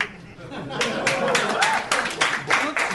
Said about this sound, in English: People are clapping because Spencer hates humanity.